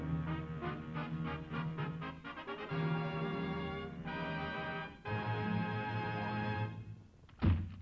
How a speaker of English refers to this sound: Don't slam that door so loud.